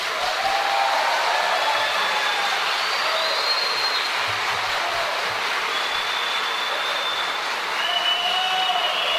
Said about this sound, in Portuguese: Assim que se dirigiu à tribuna, foi aplaudido de pé.